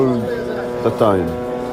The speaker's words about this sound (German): Im Hintergrund der Sprachnachricht sind Drohnen zu hören. Sie gehören für die Menschen im Gazastreifen zum Alltag. Doch vielen macht das Geräusch Angst.